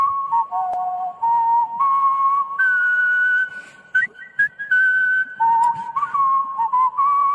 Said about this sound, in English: And this guy is a national whistling champion. He does it with his mouth. I'm already prejudging. I have prejudged this. I don't. You gotta whistle the national anthem. He does. Here it is. See if you like it.